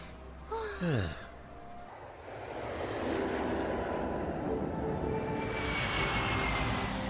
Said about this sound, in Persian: خانوم ها و آقایون همه حضار لطفاً کمربند ها رو ببندید. در حال بلند شدن هستیم.